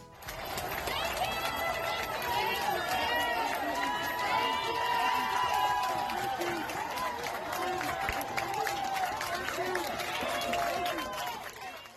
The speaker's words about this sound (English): That was a clip of hospital staff applauding protesters as they walked by in New York earlier this week.